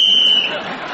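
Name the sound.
game show whistle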